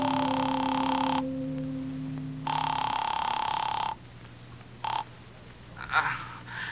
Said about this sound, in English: I found a cigar store still open, closed myself in the phone booth, and called him. The phone rang a long time before he answered.